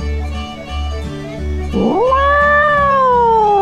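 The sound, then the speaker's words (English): An angry cat lets out a loud, drawn-out yowl that rises sharply and holds, over a steady low rumbling background, prominent. “That's a pissed off pussy right there for you.”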